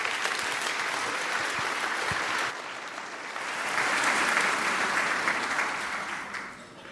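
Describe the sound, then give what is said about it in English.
A large audience at a Congress talk claps steadily for about seven seconds to welcome a speaker on the search for alien life on Mars, a dense crackling wash of applause that dips briefly, swells again, then starts to fade toward the end. “Please applaud.”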